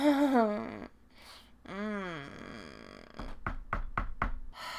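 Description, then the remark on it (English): Five firm knocks on a door by trick-or-treaters on Halloween come in a quick, slightly uneven series near the end, following a stretch of drawn-out, wordless vocal sounds. “Can't answer the door with you doing this.”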